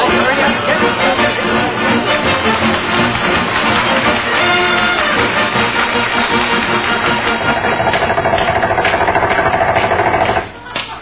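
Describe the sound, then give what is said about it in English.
Air hammers pound away in a loud, continuous rapid-fire rattle, several seemingly going at once, chopping pavement to free a man's stuck feet, before cutting off abruptly near the end. “we'll have to use air hammers and chop him loose.”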